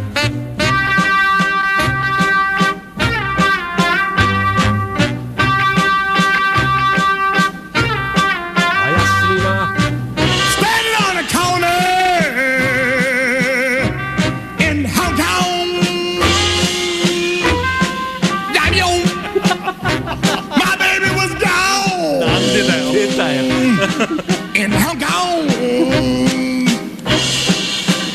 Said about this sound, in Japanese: シンバルがうるさいという。サックスがかっこいい。バンドが淡々とやってるのに、絶叫している